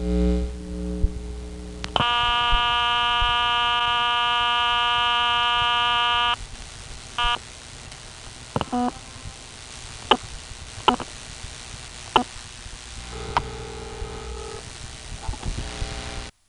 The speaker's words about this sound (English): The payphone is, again, barely recordable. In fact, it's worse than the last one. But just to give you an idea of the interesting dial tone and dialing sounds, here is the only recording I have from Port Royal.